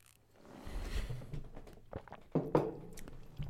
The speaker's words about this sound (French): Maintenant, au niveau professionnel, je vais juste prendre une petite gorgée d'eau.